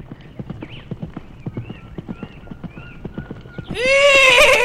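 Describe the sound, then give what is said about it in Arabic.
Steady clip-clop of horse hooves trotting at a moderate pace, followed by a loud, high whinny that rises and trails off near the end. “وعند الصباح سمع الدب الحصان وهو ينادي عليه.”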